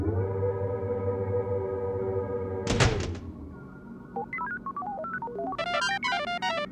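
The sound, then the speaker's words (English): A steady mechanical hum drones, then a rocket's heavy doors slam shut with a single loud thunk, followed by a quick run of high electronic beeps and tones. “The doors of the rocket closed.”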